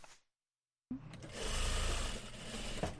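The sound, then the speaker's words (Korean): After a brief silence, sewing machines start up and run steadily, a dense mechanical whirring with rapid rhythmic stitching, several machines humming together in a small garment factory in Geumcheon-gu, Seoul, where about ten workers operate them. “이곳에 10명 정도 되는 직원들이 열심히 재봉틀을 돌리면서 일하고 있습니다.”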